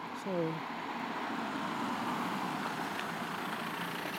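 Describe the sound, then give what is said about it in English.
A car on the road, which people flag down to ask the way to the Flackley Ash Hotel, gives a steady, broad rumble of engine and tyre noise that holds at an even level throughout, with a brief voiced sound near the start. “Just flag that car down.”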